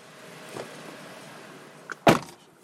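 A steady, muffled hum fills the interior of the speaker's car during a drive with Jeff Larson, director of the State Highway Safety Division, then a small click and a sharp, solid thunk like a car door or latch closing. No one speaks.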